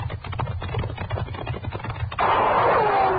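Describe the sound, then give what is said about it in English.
A rapid string of sharp gunshots fired at riders cracks out in quick succession, then gives way to a loud, sustained rushing noise. The whole thing has a narrow, old-recording quality, with no voices. “Hey, he's shooting at us.”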